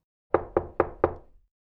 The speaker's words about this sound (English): He knocked on the door.